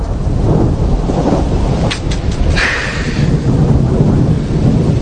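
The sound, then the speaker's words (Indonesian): Heavy rain pours steadily while low, rumbling thunder rolls underneath throughout, with a few brief crackling bursts partway through. No voices are heard. “Hujan pun mulai turun cukup deras.”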